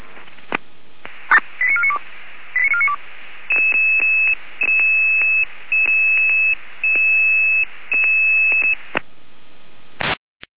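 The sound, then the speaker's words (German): A sequence of radio alerting tones for emergency dispatch in Weimarer Land over a hissy channel: short warbling pitch steps, then a run of long, steady high beeps separated by brief gaps, ending in a burst of static. “Weimarer Land und Alarmierung.”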